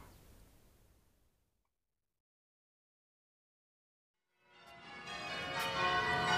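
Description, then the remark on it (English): Church bells ringing a quarter peal: a ringing tail fades into a few seconds of silence, then a dense, clanging peal of several bells swells in and grows louder and fuller. “Well, how did the bell sound then? Beautiful.”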